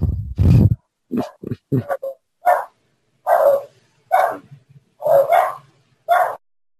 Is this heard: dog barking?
yes